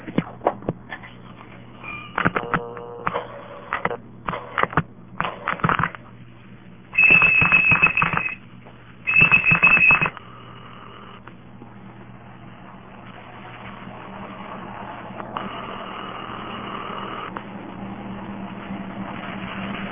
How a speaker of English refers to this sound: all that the whistling causes is that it makes the phone think it sees quick reversals and it sits there making a lot of clicks at you. But it doesn't knock the information off, or doesn't knock the ring back, or doesn't do anything too interesting.